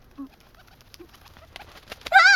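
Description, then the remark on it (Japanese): A pigeon coos softly, two short low murmuring calls spaced about a second apart, before a sudden louder burst of noise cuts in at the end. “あ、おー、こら、ハト。”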